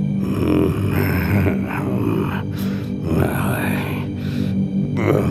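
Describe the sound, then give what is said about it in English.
A troll, Skurf the doorkeeper, snores in the caverns of the trolls in deep, gravelly rumbles, with grunting breaths rolling on steadily and a few airy, rasping inhales breaking through at slow intervals. “See now the caverns of the trolls, where Skurf, the doorkeeper, snores, expecting tonight to be just as dull as any other.”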